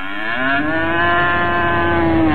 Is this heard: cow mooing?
yes